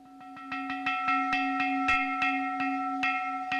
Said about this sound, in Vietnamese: Đến lúc đó là cái tay chuông, tay mõ nó cứ run bần bần. Kiểu nó như thế, như là vãi đánh ấy, như là vãi đánh chuông ấy, luôn.